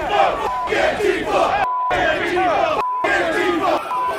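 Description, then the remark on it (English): A large crowd of Trump supporters roars and chants in overlapping shouts as it advances on the US Capitol, a loud, dense wall of voices that surges continuously, broken by two brief abrupt silences where the sound cuts out. “With those orders, the crowd of economically anxious insurrectionists advanced on the Capitol.”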